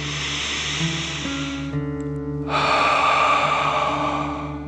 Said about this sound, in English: Breathe in through your nose and then out through your mouth, pretending you are breathing fire. Deep breath in and out.